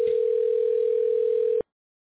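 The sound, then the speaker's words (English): A single steady telephone ringing tone hums clearly for about a second and a half, then cuts off abruptly into silence, with no voices present. “Oh, phone, dude.”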